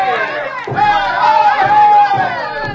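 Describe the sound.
A crowd of students shouting and chanting at a campus demonstration, parading with placards and signs on Faculty Row: a loud, continuous wall of raised voices with heavy thumps landing every second or so, like stamping feet or a beat.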